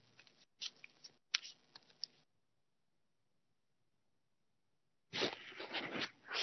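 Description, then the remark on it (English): Shuffling: a flurry of quick rustling, flicking bursts, then a few seconds of near silence, followed by a louder, denser stretch of shuffling at the end. “As I'm shuffling.”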